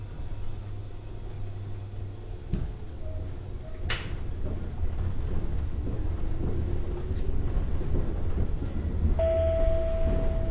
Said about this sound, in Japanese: お待たせしました。ご乗車ありがとうございます。この列車は各駅停車の野町行きワンマン電車です。次は中鶴木です。一番前のドアからお降りください。